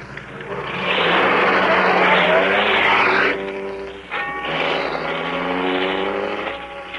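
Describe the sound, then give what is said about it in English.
A car engine revs as the car pulls back onto the road, its loud rising drone easing briefly before surging again as the vehicle speeds up. No one speaks. “After I got the car back on the road again, I felt like a fool.”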